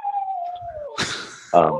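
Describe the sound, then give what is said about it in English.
A female dog with a broken toe howls in a long, steady, slowly falling tone, then breaks into a rough, noisy bark and a short, higher whining yelp. No one speaks. “sorry, my dog is talking to us all in the background.”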